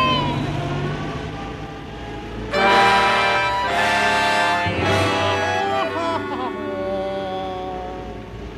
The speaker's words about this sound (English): As the refrigeration van bumped along, folks, the heat outside was 130 degrees.